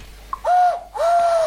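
A cuckoo calls in the distance with two drawn-out, mellow hooting notes separated by a short pause. The call is clear and alone, with no voices or other sounds.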